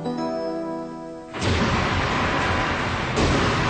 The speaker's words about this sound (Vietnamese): Cha mẹ hãy dẫn con đi xem pháo bông, thiên hạ mừng Tết Đoan Dương kìa.